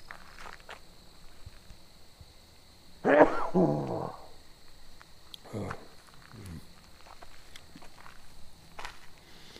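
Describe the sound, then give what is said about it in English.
A single loud, sudden sneeze bursts out, followed by a short voiced tail and a couple of softer breathy sounds against a quiet background. “Oh, I have to sneeze here.”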